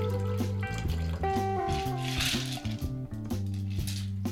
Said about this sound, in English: So now we're going to pour that into your favourite cocktail glass. So I've got a couple of teeny glasses here, and I've got a teeny, teeny glass here.